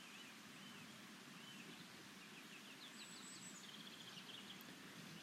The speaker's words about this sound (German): Ich hocke draussen, in Dämmerung, und höre den Vögel zu. Sie singen und pfeifen. Und das, obschon es leicht tröpfelt.